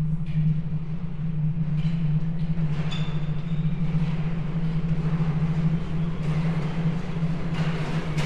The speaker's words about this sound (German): Die Sonne tauchte als blutiger Fleck hinter den Horizont, als ein Zug in Dornbergs Bahnhof einfuhr.